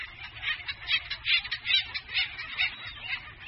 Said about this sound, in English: You can imagine the oak savanna of California, there's a big oak tree, and you can just hear birds calling because they give very distinct, these waka waka calls when they're fighting each other.